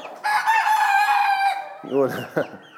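A young bantam cockerel learning to crow gives a single thin, reedy crow, fairly loud, held for just over a second before breaking off; a brief low voice follows.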